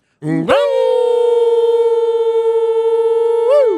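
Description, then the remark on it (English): A loud, steady horn blast signalling the end of the Toronto Raptors' game against the Atlanta Hawks in Toronto, which finished 118 to 100 and swept the four-game series. One long buzzing tone is held for about three seconds, swooping up at the start and sagging down as it cuts off. “Horn sounds, and that's it.”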